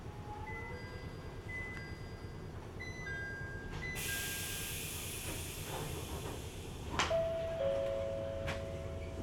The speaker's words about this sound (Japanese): この電車は各駅停車の松江新宿温泉駅でございます。